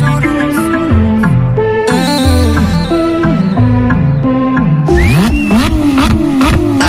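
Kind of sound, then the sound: vehicle, car engine revving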